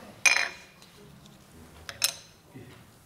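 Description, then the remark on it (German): An original lepton, the smallest copper coin of its time, worth 1/144 of a denarius, is handled, giving two bright metallic clinks with a brief ring, followed by a few softer taps and rustles against a quiet background. “Es war die kleinste damalige Kupfermünze. Ich habe da eine mitgebracht.”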